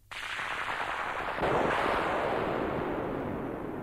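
A sudden burst of thunder breaks out and swells into a loud, steady rumble that grows heavier partway through and keeps roaring without letting up. No one speaks.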